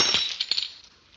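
A drinking glass tips over with a sharp clatter, followed by a few quick clinks and rattles that fade out over about a second.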